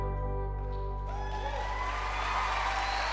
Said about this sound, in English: Thank you. I'm sorry that I had to beg you into clapping for that. I got so excited I forgot I didn't even sing on that one.